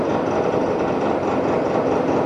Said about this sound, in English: For those who are at Zoom, they're doing construction right outside the door.